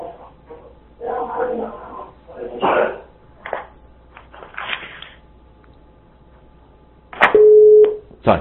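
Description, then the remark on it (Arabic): Voices talk for several seconds, then a loud, steady electronic phone busy tone sounds near the end as the connection to a phone-in caller is lost, holding one flat pitch for under a second. “فقدنا الاتصال بأخونا”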